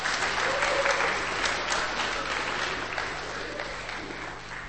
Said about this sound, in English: So give him a bit of a clap, if you wouldn't mind.